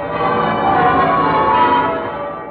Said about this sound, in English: Those are the bells of victory ringing on VE Day in Westminster Abbey, London. Those are the bells of yesterday.